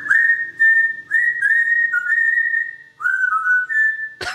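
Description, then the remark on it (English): A well-trained parrot, cued by its owner playing piano, whistles a melody of long, clear, sustained notes that glide and step between pitches, loud and alone with no talking, ending on a sharp click. “This is a well-trained parrot. He's not playing piano. The owner cues the parrot.”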